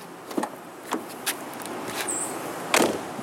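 Eleven cars idle and move as they pull up to the undergraduate library on the University of Illinois campus in the pitch black at 4:50 in the morning, on a Wednesday in early May, under a steady wash of outdoor noise, with several short thumps like car doors and a brief high squeak partway through. No one speaks.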